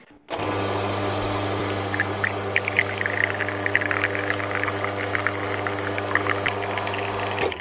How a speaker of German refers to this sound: Und wir gießen jetzt auch, und zwar die Crema in die Kaffeetasse.